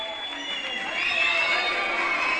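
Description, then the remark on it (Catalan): A young audience applauds loudly and continuously after a school performance of the play Segueix el teu cor at the Institut Joan Amigó in L'Espluga de Francolí, with high-pitched cheers, shouts and whoops rising over the dense clapping, sustained for the whole stretch. “Doncs entre aplaudiments, aquesta obra Segueix el teu cor es va preestrenar als instituts de la comarca.”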